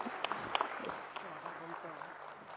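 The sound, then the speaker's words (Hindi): A few scattered audience claps at a panel discussion in the opening second, sharp and fairly quiet, then fading out as people keep talking in the background. “देखिए, तो सभी अपने लिए ताली बजाएंगे।”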